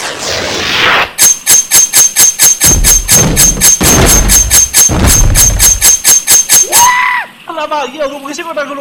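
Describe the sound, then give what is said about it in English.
A samurai sword hacks through the wallpaper and wall of a room at the Hotel Rio de Janeiro into the room next door, a rapid, steady burst of sharp slicing strikes, each with a faint metallic ring, lasting several seconds before a falling tone and a voice take over. “Mind if I slice my name in the wallpaper?”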